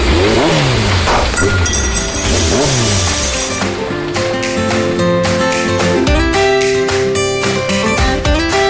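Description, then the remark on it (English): A car engine revs loudly, its pitch climbing and dropping in several quick surges, then settling into a steadier, denser hum with no voices; the car is still on a driveway. “We can barely hear the engine now.”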